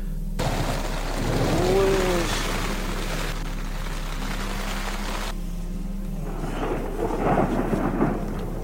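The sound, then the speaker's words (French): A night thunderstorm with deep, rolling thunder rumbling on and off over a steady wash of rain, fairly loud, heard from inside a tent, with a faint voice briefly audible near the end. “J'ai peur de me faire frapper par l'orage, bien qu'il y ait très peu de chance, mais c'est tellement impressionnant à ce moment-là que je me dis, c'est fou.”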